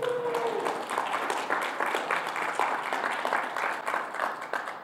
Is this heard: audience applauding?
yes